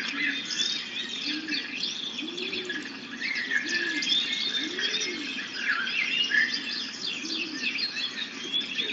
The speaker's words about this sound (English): Listen very, very deeply to the birds. There's a lot of different birds in this recording, so you have the opportunity to hear a lot of different sounds.